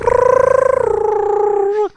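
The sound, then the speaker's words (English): Phoenix song made by Harry Potter's vibrating, humming wand as it connects with Voldemort's wand: a single sustained, melodic tone with a rapid trembling warble, gently sliding lower in pitch for nearly two seconds before cutting off abruptly. No talking. “That's what Phoenix song sounds that's like.”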